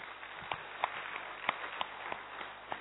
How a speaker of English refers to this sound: So that's a very big group, and yes, all of you, because without you, what's the use of we being here? So a very big clap for each one of you.